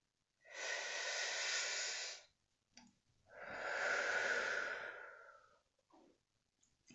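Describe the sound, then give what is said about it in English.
A slow, deep breath drawn in, then a long, audible exhale, both breathy, separated by a brief pause and followed by a few faint quieter breaths. “Take in a deep breath, breathing in the presence of the divine and breathing out the anxiety holding us tight.”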